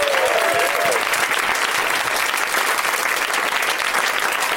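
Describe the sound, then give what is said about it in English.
A crowd breaks into sustained applause welcoming Roy Abramson, lead actor of the film Escape from Tomorrow, a dense, steady wash of clapping that holds at full strength throughout, with a brief whistle-like tone at the start. “Let's have a round of applause, even though you still might not know who he is, for Roy Abramson, everybody.”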